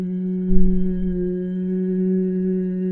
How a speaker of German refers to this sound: Ich übe das immer so, dass ich mich bequem hinsetze, einige tiefe Atemzüge ein- und ausnehme, bevor ich dann starte. Und dann atme ich ein und bei der Ausatmung beginne ich zu summen.